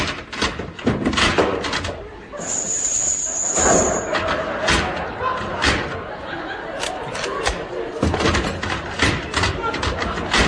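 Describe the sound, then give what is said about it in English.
A sticking door is kicked open with several heavy thumps and a bang, while people talk and laugh over the noise. “Will you kick it your side, sir? It sticks.”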